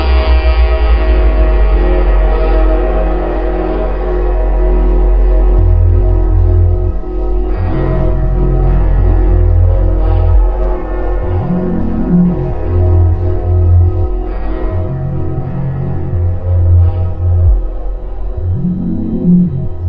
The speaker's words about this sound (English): it's a powerful and persuasive piece that begins with a shudder of submerged orchestral fanfare before dropping to even deeper depths as backwards tape loops, mournful horns, and rich low-end warbles all come together in haunting ways.